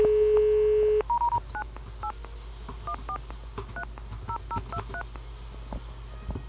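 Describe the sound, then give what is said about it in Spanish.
A steady dial tone cuts off, then a rapid series of short telephone keypad beeps follows, about a dozen touch-tone presses in quick succession over a faint background hiss, as a phone number is dialed to call someone for an interview. “Es el teléfono que nos dio en la anterior breve entrevista que le hicimos hace unos meses, donde él se comprometió a dar una entrevista.”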